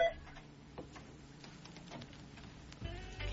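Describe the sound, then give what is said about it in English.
A mobile phone sounds right in front of the microphone in a studio, loud and close, as a rapid rattling tick that swells into a heavier low buzz near the end. No one speaks over it. “Phone is loud, eh? It's right in front of our microphone, too.”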